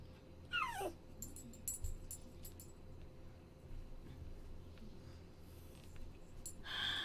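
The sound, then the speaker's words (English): A dog grumbles low and whimpers past midnight, opening with a high whine that slides downward, then softer throaty grumbles and a brief huffing snort at the end, all fairly quiet. “I'm recording a script that should only take me 30 minutes to record, but my dog wants to give me attitude.”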